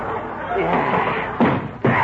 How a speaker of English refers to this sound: I'm kicking that cedar chair.